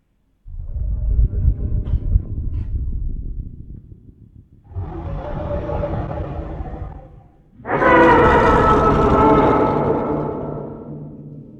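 A more scientifically accurate reconstructed T-Rex sound: a low rumbling growl, then a deep, airy breath, then a loud, rich, open-mouthed roar that swells and holds for several seconds before trailing off. No talking.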